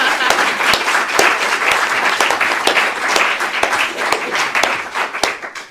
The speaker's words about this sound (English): I think, actually, with both of them coming distances to see us, we should actually start with some applause, if you don't mind.